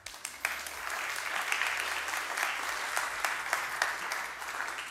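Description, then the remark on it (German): An audience of the Livekirche church in Langenfeld and Leverkusen applauds steadily for several seconds, a dense wash of many hands clapping with a few sharper claps standing out. “Auch da dürft ihr gerne ein Amen zu geben und auch einen Applaus zu geben.”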